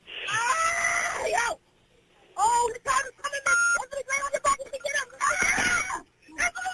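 A woman lets out loud, high-pitched screams in several long bursts with a short pause between them, harsh and strained.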